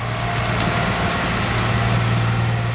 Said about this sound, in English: Behind where he's standing, a massive truck overflowing with exposed tree roots and mounds of earth rolls past, clearing the tracks after a recent landslide.